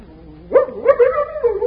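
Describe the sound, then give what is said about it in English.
A dog whimpers softly, then breaks into louder, excited whining yelps and short barks, unbroken, greeting a man it remembers and wanting to lick his hand. No one speaks. “The guy who thought dogs weren't so hot for a two-fisted war? He remembers me.”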